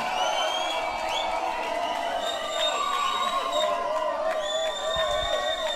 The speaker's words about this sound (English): Alright, yo, we're gonna keep that clapping going and we're gonna keep it all going.